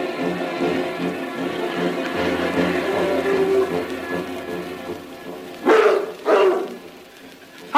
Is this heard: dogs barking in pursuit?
yes